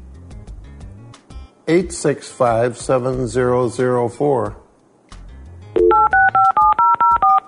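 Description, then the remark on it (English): A voice speaks briefly, then a quick, even run of about seven telephone touch-tone dialing beeps follows, each tone short and loud, as a voice-controlled computer phone dials a call over the internet to a cell phone on a wheelchair. “Dial phone. Thank you. Dialing.”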